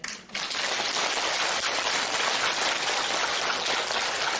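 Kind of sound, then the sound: crowd, audience applause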